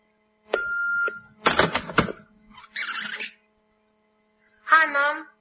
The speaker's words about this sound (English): An empty house and only an answer phone to greet me.